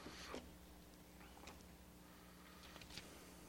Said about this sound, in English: Man, that clock keeps ticking, doesn't it?